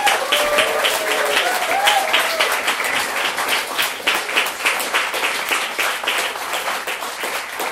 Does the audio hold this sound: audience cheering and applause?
yes